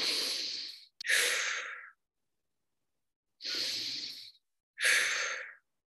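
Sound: deep breathing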